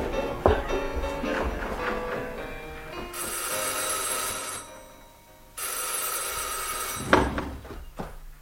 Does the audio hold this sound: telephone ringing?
yes